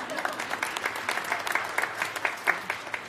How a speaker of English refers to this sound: Guys, have a seat. Round of applause.